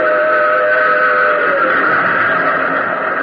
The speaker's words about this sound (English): A rumble filled the air. And just as I reached the rail bed, I saw the tunnel hewn out of mountain rock. And plunging from the tunnel's mouth, like some black, terrible monster, roared a train. It tore by me in a deafening roar.